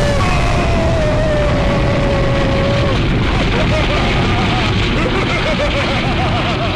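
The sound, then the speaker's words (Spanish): A loud, sustained explosion effect roars through the whole stretch, a falling whistle over the rumble at first, then warbling tones riding on the continuing blast. “¿Una bomba o qué? Mire. ¡Bum!”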